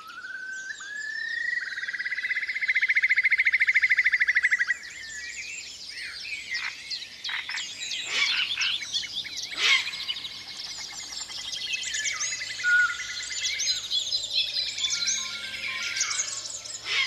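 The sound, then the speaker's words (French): Birds chirp and sing continuously, opening with a long sustained whistling note before a busy overlapping chorus of trills and tweets, clear with no voices. “Il y a aussi des oiseaux.”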